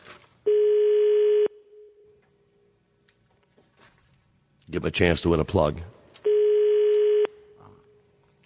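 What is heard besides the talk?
foreign telephone ringing tone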